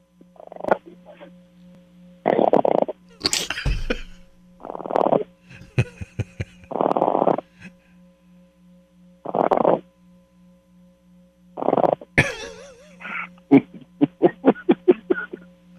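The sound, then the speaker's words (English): A pug dog snorts and wheezes in repeated loud bursts with short pauses, breaking into a quick series of snuffling snorts at the end, over a steady low hum. “His pug.”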